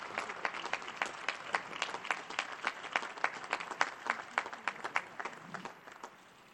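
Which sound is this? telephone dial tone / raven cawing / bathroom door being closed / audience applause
audience applause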